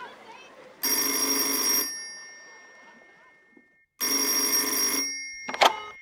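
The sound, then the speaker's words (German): A telephone rings twice, each loud, bright electric bell burst lasting about a second with a pause between, followed by a sharp click as the line is picked up, as a call is placed from the Tigerentenclub Hörspielshow. “Dann ruf ich sie mal an.”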